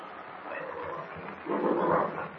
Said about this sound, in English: Jimmy and Baptiste, helpless in the cave, are in danger of being attacked by an angry bear. Huddled in the darkness, they wait. The huge animal lumbers toward them, growling ferociously.